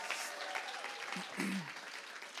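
Steady audience applause welcoming the next speaker, a dense wash of many hands clapping at a fairly loud, even level for the whole stretch, with faint voices and a brief whoop rising through it.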